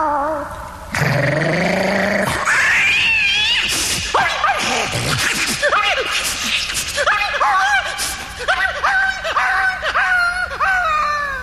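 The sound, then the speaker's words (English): A dog named Brandy growls low, then breaks into loud, frantic barking and yelping that turns into a rapid run of repeated barks, continuous with no talking. “Down, Brandy, down. Oh. Don't tear that keeper apart.”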